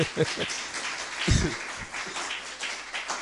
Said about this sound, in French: Est-ce que nous pouvons applaudir